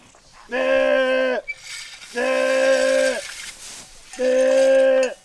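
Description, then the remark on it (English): A sheep rancher calls out to a flock of sheep in the forested hills around Lake Wenatchee in three long, drawn-out, bleat-like cries, each about a second, loud, separated by short pauses with faint outdoor background. “That's … calling to the sheep.”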